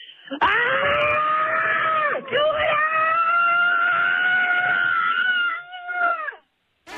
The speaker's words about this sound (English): And this is our grand prize winner. Let's take a listen to their scream. All right, you want their scream? All right, the scream for here we go.